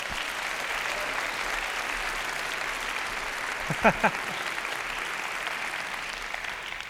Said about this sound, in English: Give Larry a hand.